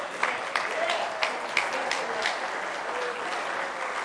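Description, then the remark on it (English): A church audience clapping their hands together in worship, a dense, sustained wash of claps with occasional sharper accents standing out, and faint voices mixed underneath. “Change your attitude. Clap your hands. Worship.”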